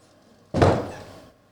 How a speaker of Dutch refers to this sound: Ze wordt in de kamer gezet en de deur gaat dicht.